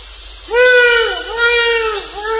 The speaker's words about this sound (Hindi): नहीं गुजरात में भी बहुत मोर है, मयूर। विद्यानगर में हम नहीं सुनते, सब सिटी जैसे बन जाए, लेकिन देहात में वो फार्म में बहुत है नहीं?